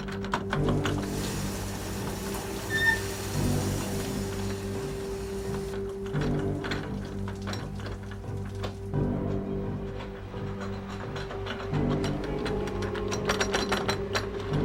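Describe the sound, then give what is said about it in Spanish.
A man forcing the lock of an apartment's front door: continuous metallic rattling and ratchet-like clicking over a steady low mechanical hum, with bursts of scraping that come and go throughout and no voices. “Al mirar por la mirilla, notó que un hombre intentaba forzar el cerrojo.”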